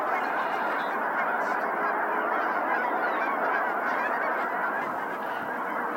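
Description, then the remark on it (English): A dense, continuous clamor of many snow geese honking together, a loud overlapping chorus of calls sustained throughout with no pauses, as a large flock flies up and passes in flight. “Here's a flock flying up.”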